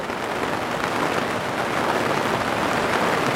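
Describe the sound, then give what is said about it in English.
Steady rain falls throughout, a dense, even hiss of drops spattering on a hard surface, with no pauses or voices. “Cheers to the rain, to the lightning, to the thunder.”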